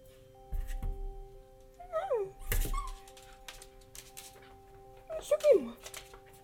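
A dog whimpers close by in short, high, falling whines, with a yip near the start and another drawn-out whimper toward the end, over soft thumps and a steady low hum.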